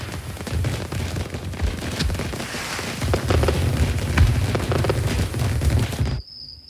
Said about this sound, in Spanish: Desde la Pardina, su hermosa casa solariega, el abuelo oye los fuegos artificiales del lejano pueblo.